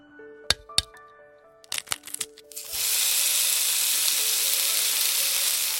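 Several sharp cracks and taps ring out, then a loud, steady sizzle of an egg frying in a hot pan takes over and continues without a break to the end. No one speaks.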